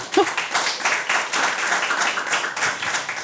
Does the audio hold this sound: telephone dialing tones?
no